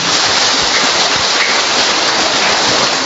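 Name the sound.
audience applause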